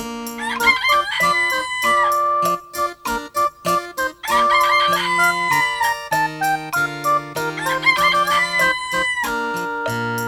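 A rooster crows several times at a steady interval, the calls layered over a bright, rhythmic musical backing of sustained tones and plucked notes that plays throughout at a fairly loud level.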